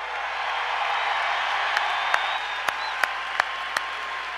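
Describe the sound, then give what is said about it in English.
A large audience of hockey fans applauds as number 16 is raised into the rafters, a dense, steady roar of clapping that holds at an even loudness, with a few sharp, louder individual claps popping out near the end. “I want you to applaud every person that ever wore the blue note, and I want you to applaud yourself, because there may be equals, but there are no better hockey fans in the world.”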